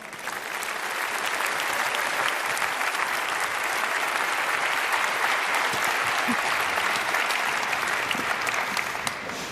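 Sustained audience applause welcoming a speaker's talk, a dense steady wash of many hands clapping at fairly even loudness for about nine seconds before easing slightly at the end, with no speech.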